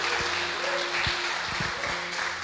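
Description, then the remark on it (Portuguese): An audience at a church service applauds steadily, a dense and even wash of many hands clapping together at a constant loud level for the whole stretch, with a low steady hum running underneath. “Dá uma salva de palmas se você crê nisso.”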